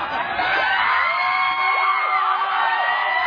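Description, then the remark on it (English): Three women yell and shout at a man over one another during a street brawl, a dense, continuous clamor, loud, with rising and falling cries against a crowd-like din. “Okay, now the three women are yelling at him.”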